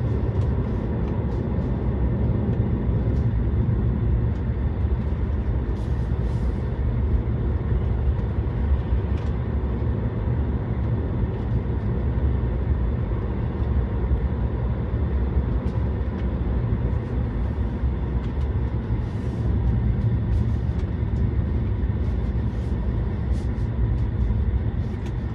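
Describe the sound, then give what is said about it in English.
Steady road rumble of a car in motion driving through a turn, a dense low drone holding level throughout with faint higher hiss and occasional light ticks, no voices. “I think one more second on that turn, and I would have.”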